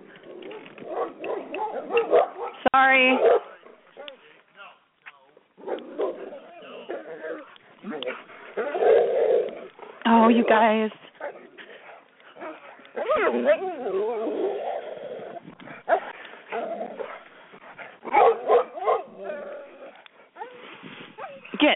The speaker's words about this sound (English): I wonder if anyone ever wondered what the barking is and stuff.